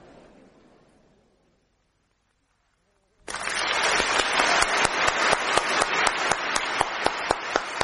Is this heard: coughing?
no